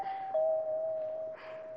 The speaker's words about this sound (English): The doorbell's ringing.